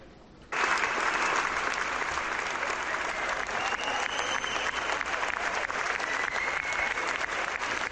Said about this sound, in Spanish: Es, Itziar, la ovación que recibisteis tras la proyección de la película en el Festival de San Sebastián.